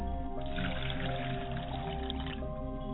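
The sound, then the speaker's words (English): Liquid is poured out as a libation toward the northwest, in a steady, splashing trickle for about two seconds, moderately loud, with a low background hum throughout. “I pour libations to northwest, which is Aset, approximately 9 p.m. in the evening.”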